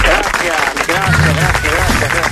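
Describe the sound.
A crowd applauds in a steady, dense patter of clapping that fills the whole clip, with a voice talking over the applause.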